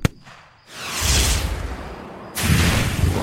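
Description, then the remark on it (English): Booming explosions erupt one after another, each a broad roaring burst of noise with rumbling low end, loud, separated by a brief lull before the second hits. “Another explosion and I flew backwards, tumbling over shrubs and rocks.”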